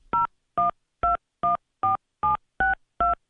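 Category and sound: signal or alarm, telephone keypad dialing tones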